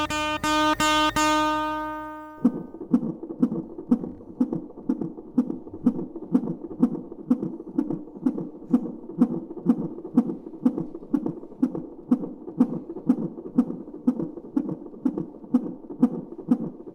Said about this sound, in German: Das sind die Herztöne eines ungeborenen Babys, und zwar 2 Wochen vor dem Geburtstermin. Um den Herzschlag zu messen, werden der Mutter 2 Sensoren auf den Bauch gelegt und mit einem Gurt fixiert. Es wird also ein CTG geschrieben.